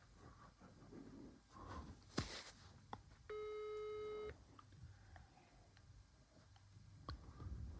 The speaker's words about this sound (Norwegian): Skal se om han tar telefonen. Han mener at jeg ikke har prøvd å ringe deg, men det har jeg jo. Nå ringer jeg igjen.